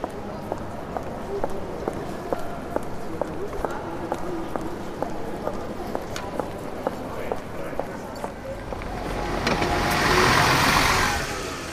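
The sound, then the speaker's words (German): Steady street traffic at the Schlossplatz bus stop rumbles with car engines running, a regular ticking in the background and faint voices, until a vehicle swells loudly past near the end. “An der Schlossplatz Bushaltestelle.”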